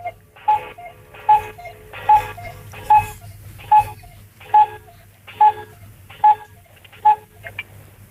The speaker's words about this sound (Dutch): Ik was van die koekoeksklok van net. Ja, ik zal hem weer aanzetten. Oh, hij hangt inmiddels.